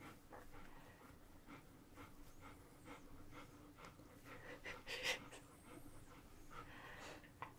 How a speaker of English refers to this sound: The ASMR sounds of my dog snuffling at her undercarriage.